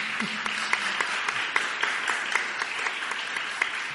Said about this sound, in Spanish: Y un fuerte aplauso, por supuesto.